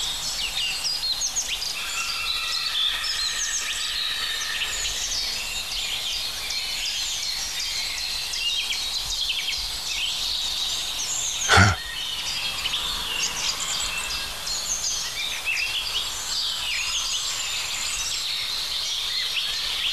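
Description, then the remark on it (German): A Eurasian blackbird sings amid a dense, steady chorus of other birds and insects outdoors; one sharp knock cuts through briefly near the middle. “Da wird die Amsel halt eine kurze Pause gemacht.”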